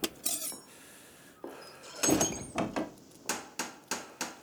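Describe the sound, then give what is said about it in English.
Sharp, solid knocks on a door, a few scattered blows at first, then a steady run of four evenly spaced raps toward the end, fairly loud with no voices. “Whence is that knocking?”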